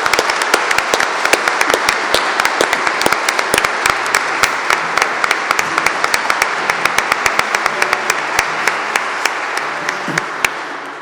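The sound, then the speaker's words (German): Sustained audience applause in a church, a dense crackle of many hands clapping with sharp individual claps popping out, steady and loud for about eleven seconds before thinning slightly at the end. “Ein Applaus.”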